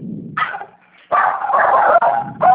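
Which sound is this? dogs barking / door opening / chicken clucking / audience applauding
dogs barking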